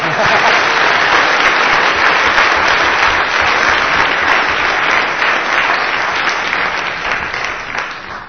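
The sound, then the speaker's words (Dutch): Sustained applause from a church audience for performers after their last performance, a dense steady wash of many hands clapping, loud throughout and thinning slightly toward the end. “Ah, dat was niet slecht, dit applaus.”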